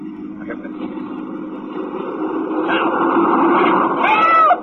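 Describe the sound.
A car rumbles by overhead, its muffled drone swelling steadily louder over several seconds before cutting off, with a voice rising briefly near the end.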